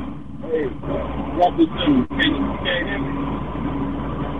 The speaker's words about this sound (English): No, I can barely hear you because it sounds like he has his own speakerphone, and we're hearing is like a truck.